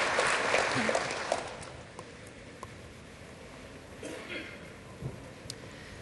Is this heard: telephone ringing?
no